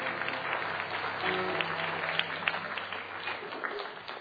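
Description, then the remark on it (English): Sustained applause from an audience at an evening fundraiser, applauding themselves for the money raised, a dense wash of many hands clapping steadily for several seconds, fairly loud, with faint murmuring underneath. “And so give yourselves a round of applause.”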